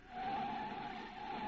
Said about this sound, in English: All right, now I'll put on the brakes and ease the thing to a stop.